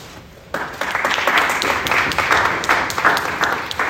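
Applause from an audience begins abruptly after a brief pause and continues steadily, a dense crackle of many hands clapping at a fairly loud, even level until the end.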